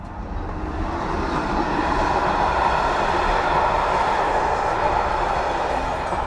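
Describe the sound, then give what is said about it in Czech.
An express passenger train bound for České Budějovice rumbles past on the rails, a loud, steady roar of wheels and carriages that swells after the first second and holds through to the end. “Teď máme to štěstí, že se nám tady křižují vlaky. To byl expres na Český Budějovice a přijíždí nám Regionova.”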